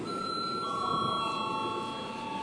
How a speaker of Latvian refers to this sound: Tā kā jūs vairs nevarat pieteikties debatēs, lūdzu zvanu.